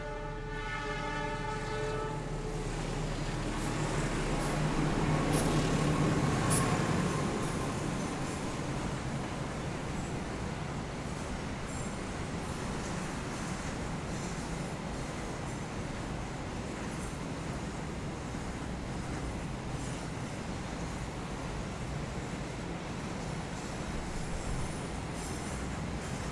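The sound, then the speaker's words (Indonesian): A train passes by, opening with a sustained horn blast over a heavy rumble, then continuing as a steady, loud roar of rolling wheels and rattling cars for the rest of the stretch. “Ada kereta.”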